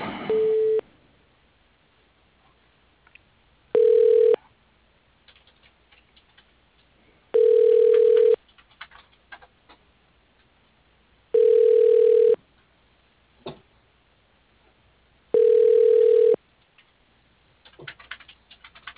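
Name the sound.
telephone ringing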